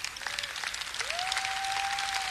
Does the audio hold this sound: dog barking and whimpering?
no